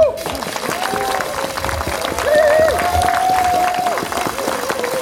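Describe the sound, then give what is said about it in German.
A crowd of about 80 people at a climate justice gathering applauds with dense, steady clapping for about five seconds, mixed with cheering voices and a sustained high whistle rising over the clapping midway through. “Also großen Applaus für euch erstmal.”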